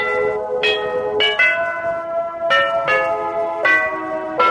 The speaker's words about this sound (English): That is our holiday doorbell that we sell for $29.95. Not only does it do a doorbell, but it will also do six melodies.